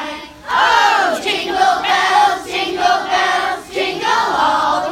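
A large crowd sings a cheerful holiday tune together, many voices blending into a loud, steady chorus with rising and falling melodic lines and no pauses.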